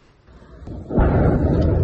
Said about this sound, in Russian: Интересно, что оккупационная администрация до сих пор ни словом не обмолвилась об этом. Не назвала ни своих версий произошедшего, ни то, какое оружие туда могло достать, и вообще, что такие взрывы имели место.